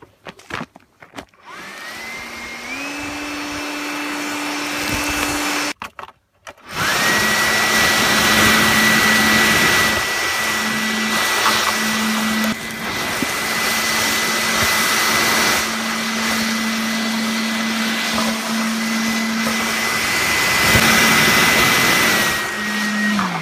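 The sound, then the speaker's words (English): A Bosch electric garden chipper whines up to speed, cuts out briefly, then roars steadily with loud crunching and grinding as branches left over from yesterday's chainsaw work are shredded, its motor holding a constant humming pitch. “This, the mess left over from yesterday, using the Bosch chainsaw as previously noted, and the Bosch chipper as previously noted.”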